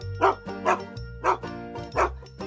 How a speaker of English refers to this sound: The old woman had a dog too, and his name was Goldtooth. One day, Goldtooth started to bark loudly.